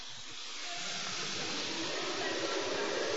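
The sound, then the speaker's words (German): A group of voices imitates a storm with a soft, steady rushing and hissing, like wind blowing. The whoosh is continuous and even for the whole clip and swells slightly louder toward the end. “Wir wünschen, dass wir eine Runde Sturm machen.”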